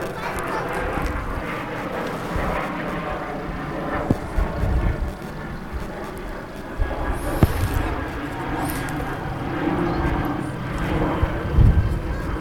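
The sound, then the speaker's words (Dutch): An airplane flies overhead, its engine a steady, broad roar that fills the whole stretch at fairly even loudness, with faint murmuring voices beneath. “En de piloot die heeft als materiaal zijn vliegtuig. Zullen we even allemaal zwaaien, kinderen, naar de piloot?”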